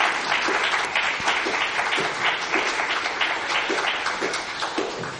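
A modest round of applause, many hands clapping in a steady, dense patter that holds at a fairly even level for several seconds before easing off slightly.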